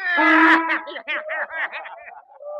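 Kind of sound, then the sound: animal, donkey braying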